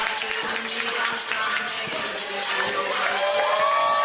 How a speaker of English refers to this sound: They're cheering out. That's good.